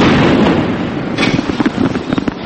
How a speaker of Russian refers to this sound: От танковых залпов вылетают стекла в домах. Стрельба, взрывы, раненые.